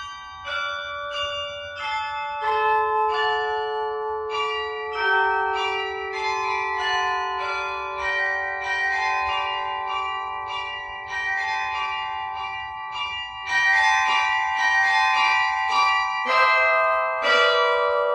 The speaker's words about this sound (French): Presque, parce que dans certaines villes, comme à Manosque ou à Avignon, on a réinstallé des carillons. Et au moment de la sonnerie des eaux, on entend le carillon jouer les Noëls traditionnels.